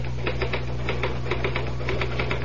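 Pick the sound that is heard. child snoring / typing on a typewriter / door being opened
typing on a typewriter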